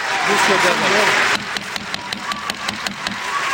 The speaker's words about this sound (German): Von den Verbleibenden quittierten die einen, vor allem Vertreter muslimischer Länder, die Worte des Iraners immer wieder mit tosendem Applaus, während andere Buhrufe wählten.